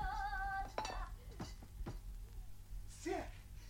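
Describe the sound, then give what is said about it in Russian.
Dishes and cutlery clink and clatter in a few sharp, scattered knocks as a woman dances on a restaurant table among roast meat, over a low background hum, with a brief voice sound rising near the end. “Сойдите со стола, мисс Доллар. Вы же танцуете в жареном мясе.”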